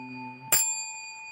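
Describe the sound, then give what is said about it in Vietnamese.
A bright bell is struck once, its clear metallic tone ringing on and slowly fading, with a softer lingering hum from an earlier ring just before. No voices. “Giọt sương rụng úa ngành trăng, ngân nga mà mấy tiếng chuông thanh rằm ngàn.”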